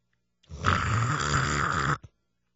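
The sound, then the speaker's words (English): A single loud, rasping snore that lasts about a second and a half, with no talking, then a brief snort at the end before silence. “So these nose strips, they open up your nostrils so you can snore louder.”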